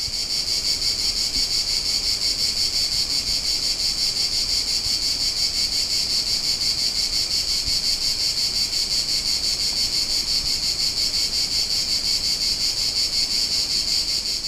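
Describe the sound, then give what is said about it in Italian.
Cicadas hidden high up in tree trunks chirr in a loud, unbroken high-pitched drone with a fast pulsing texture, steady throughout, with no voices. “Nascoste nelle parti più alte dei tronchi, le cicale sono in piena attività.”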